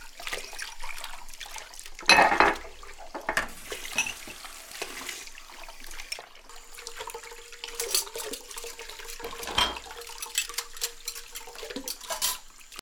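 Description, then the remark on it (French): Running tap water splashes steadily while dishes and cutlery clink and clatter in a sink as the dishes are washed at home, with a few sharper knocks of plates and no one speaking. “J'ai fait la vaisselle.”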